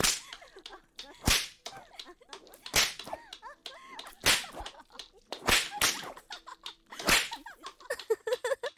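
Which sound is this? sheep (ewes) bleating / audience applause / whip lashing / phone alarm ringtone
whip lashing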